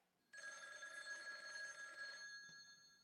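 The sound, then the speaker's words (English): A telephone bell rings in one sustained, bright burst of about two seconds, then trails off into a fainter ringing tail. It is loud, with no one talking. “So many phone calls, it's almost like an episode of Tubi Tuesday.”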